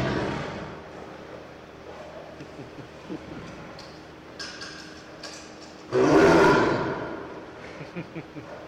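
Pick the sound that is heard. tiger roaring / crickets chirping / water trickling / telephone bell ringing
tiger roaring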